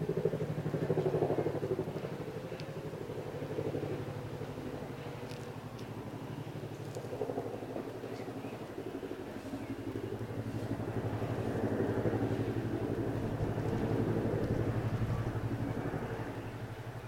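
A twin-rotor military Chinook helicopter flies over, coming in to land at Selly Oak Hospital: a heavy, steady low-pitched engine drone with a throbbing rumble that stays loud for the whole stretch, with no voices.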